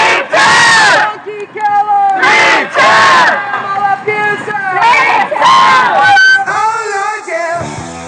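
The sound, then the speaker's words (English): A crowd of 30-plus protesters chants and shouts outside a home on Massachusetts Avenue, protesting Huntington Life Sciences' killing of animals, with chants like "Puppy killer!" Loud, rhythmic bursts of voices rise together in repeated phrases with short pauses between, the yelling sustained and forceful throughout. “especially when it brings 30-plus people out to your ritzy home on Massachusetts Avenue disturbing”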